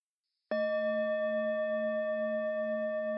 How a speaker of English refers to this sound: So in a moment when you hear the bell, you may open your eyes.